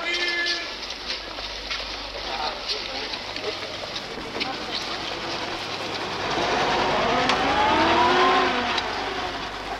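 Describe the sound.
A taxi speeds along as fast as possible toward Schädel with a steady roar of engine and road noise; the engine pitch climbs as it accelerates near the end, with muffled voices beneath.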